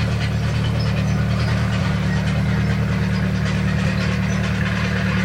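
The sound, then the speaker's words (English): A tractor with two boys on it chugs steadily, a loud, continuous low engine rumble with a rough idling throb that holds without pause, with no voices. “Those two boys on that tractor really know how to get around.”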